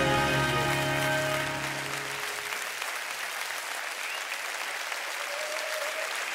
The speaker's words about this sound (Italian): applaudire.